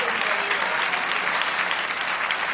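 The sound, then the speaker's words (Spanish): A crowd applauds steadily, dense overlapping claps forming a loud, even wash of sound that holds without pause throughout. “Denle un aplauso.”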